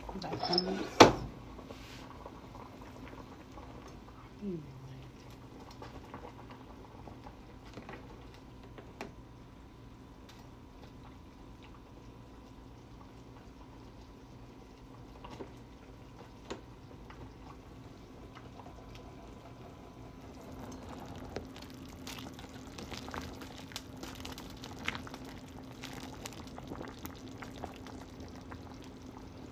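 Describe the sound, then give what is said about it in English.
Soup bubbling in a pot in a kitchen: a steady low hum with scattered soft pops and gurgles that grow busier toward the end, after a sharp clatter at the start. “You guys hear the bubbling?”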